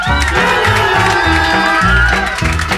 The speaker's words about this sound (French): On peut les applaudir encore une fois.